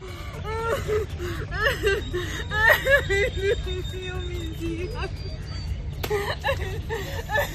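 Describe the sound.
A woman of about 40 cries with relief in shaky sobs with a wavering, high-pitched voice, in front of journalists' cameras at the US–Mexico border just after crossing a small river, her breaths catching between bursts, over a steady outdoor rumble and faint crowd murmur.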